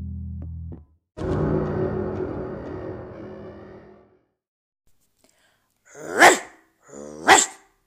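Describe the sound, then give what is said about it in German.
A big dog, an American bulldog, lets out a long rough, grumbling vocalization, then after a pause gives two loud, deep barks about a second apart. “Hier bellt Warrior, der stärkste Hund der Welt. Ich bin ein amerikanischer Bulldogger.”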